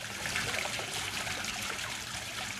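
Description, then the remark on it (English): Steady water from a fountain splashing and trickling onto the ground at Taliesin West, in the dry sagebrush foothills of Arizona, a continuous bright spatter that stays even throughout, with no voices. “The sound of water hitting the ground is unusual in the dry sagebrush foothills that surround Taliesin West.”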